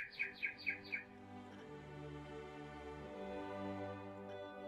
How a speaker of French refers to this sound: Parfois, de sa voix la plus claire, l'oiseau dont le chant s'accélère égrène un trill.